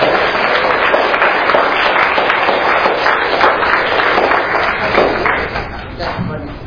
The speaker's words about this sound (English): Okay, give them a big round of applause.